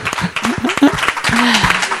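A crowd applauds loudly for the master of ceremonies during a special broadcast from the Festival des héros du cinéma in Cap d'Agde, dense overlapping claps, with voices calling out and cheering over the clapping throughout.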